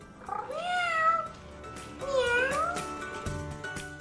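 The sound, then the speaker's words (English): A fluffy battery-powered Hasbro robotic toy cat gives two drawn-out, rising-and-falling meows about a second apart, fairly loud, followed by a soft mechanical click. “Hasbro's cat is much cheaper, but no less fluffy. And you soon forget that it's battery powered.”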